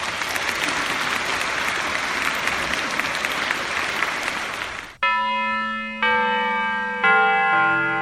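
A crowd claps steadily and fairly loudly for several seconds with no talking, applauding six commentators at the close of a symposium, then the applause cuts off abruptly and three ringing, bell-like chime notes follow one after another.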